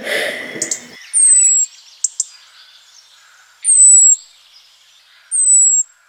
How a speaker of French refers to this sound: C'est des oiseaux solitaires. D'accord. Et chantent quand peu d'autres oiseaux chantent. Ah, donc on peut vraiment facilement reconnaître celui-là oui, à sa propre saison. C'est ça. Un bruit de cascade, on m'a dit.